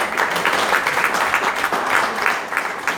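Steady applause from an audience, a dense wash of many hands clapping at a constant loudness for a few seconds, with no voices standing out.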